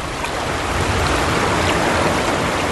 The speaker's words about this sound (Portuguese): a água veio correndo da direção de Edom e cobriu o chão.